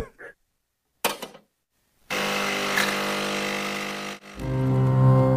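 A coffee machine starts up: a couple of soft clicks, then a loud, steady grinding whir for about two seconds, shifting into a lower, humming pump drone. No one speaks.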